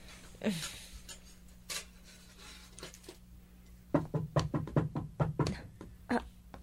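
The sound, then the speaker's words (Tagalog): Knocking on a door: a couple of separate raps, then a quick burst of firm knocks and one last knock, with a faint steady hum in the background. “Sila na ba yung kumakatok? Parang ang bilis naman. Bubuksan ko na nga ang pinto.”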